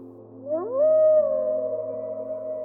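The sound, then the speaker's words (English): A long, mournful wolf howl from the crest of a hill slides upward in pitch, then holds a steady tone for a couple of seconds over a faint low hum, with no other voices. “Wolves howled from their vantage point on the crest of a hill.”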